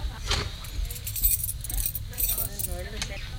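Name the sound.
keys jangling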